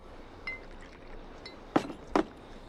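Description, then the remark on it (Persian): Another drink is poured into a glass for a friend, marked by faint light taps and then two sharp glassy clinks about half a second apart, with no talking. “یه لیوان دیگه هم برای دوست نابالغ و کودن و خنگم میریزم.”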